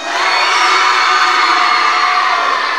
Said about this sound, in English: Who's going to cheer the loudest and the best?